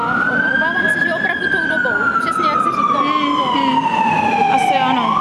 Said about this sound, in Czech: Tady houká záchranka a Bůh ví, koho kousnutýho tam veze.